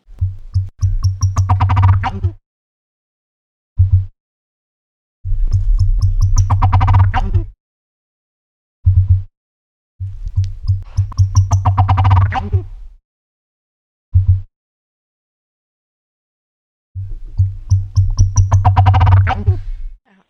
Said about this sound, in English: So I'm excited to give your listeners the chance to hear the turkey for itself. So let's listen to this recording of the sound of oscillated turkeys provided by John McRoberts.